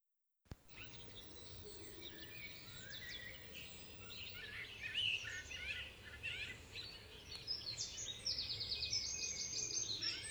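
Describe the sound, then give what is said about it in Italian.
Many birds chirp and sing together in a busy chorus, high twittering calls overlapping continuously over a soft low background, growing a little louder toward the end. “Un giorno tutti gli uccelli della terra, i noti e gli ignoti, si riunirono in congresso.”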